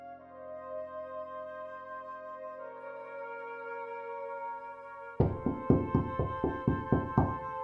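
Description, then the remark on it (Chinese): A sustained musical drone plays alone for about five seconds, then loud, rapid knocking on a door breaks in: around nine sharp, evenly spaced raps by more than ten police officers arriving on the evening of the third day of Lunar New Year 2003, with the music continuing beneath. “2003年大年初三傍晚，随着一阵敲门声，闯进来十多个警察，二话没说，架起我就推进了警车，随后是抄家。”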